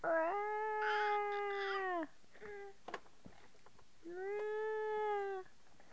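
A cat lets out two long, drawn-out meows, loud, with a brief softer mew between them and a quiet pause before the second wail.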